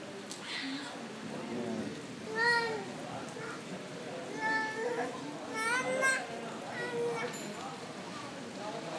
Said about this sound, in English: So we just had a few claps of thunder that sounded quite close, and then there's been a bit of a gap. No, there's not very much, although the rain is lashing down. It's still quite black, though, I think.